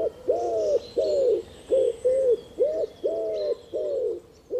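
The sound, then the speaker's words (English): A wood pigeon croons, a steady rhythmic series of soft, deep cooing notes repeated one after another, with faint higher birdsong twittering in the background. “Wood pigeons have a deep rhythmic song, usually of five notes.”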